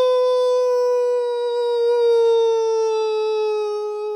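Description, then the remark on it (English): A single long wolf howl, loud, holding one steady note for about four seconds before sliding slightly lower in pitch, with no other sounds around it. “And remember, friends, the word credits in wolf is ow.”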